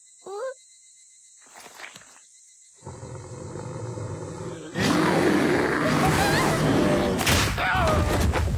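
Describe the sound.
A person imitates a roaring bear while craving meat: after a brief vocal yelp, a rough, raspy growl builds up and then bursts into a loud, sustained roar that lasts several seconds.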